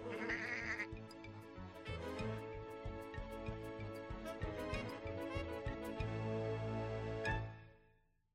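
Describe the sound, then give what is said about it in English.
Sheep-like bleating carries over lively, bouncy polka music with a steady thumping beat, loud and continuous, before everything fades out at the end. “Thanks for the polka, Mr. Sheep.”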